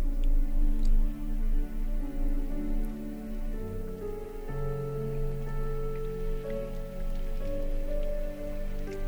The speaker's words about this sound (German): Und den warmen, leichten Regen. Regen, der Zeit hat. Regen, der dir Zeit gibt.